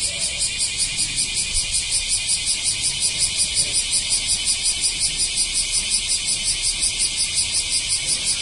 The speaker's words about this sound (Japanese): そこ行くと日本はどこでも、ちょっとでも庭木のあるところに来たら、セミが、すごいですよね。僕の今いるところも、普通の住宅地ですけども、えらいセミが鳴いてますね。